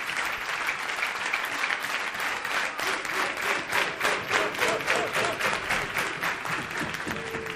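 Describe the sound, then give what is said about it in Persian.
Sustained applause from an audience for the coaches, a steady dense patter of many hands clapping for several seconds at an even, moderately loud level, with no talking over it. “همه کوچه‌ها رو تشویق کنید، خیلی دوستتون دارن، خدایی خیلی زمان میذارن.”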